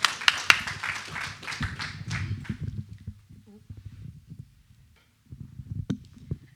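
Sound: audience clapping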